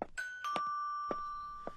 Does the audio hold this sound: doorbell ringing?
yes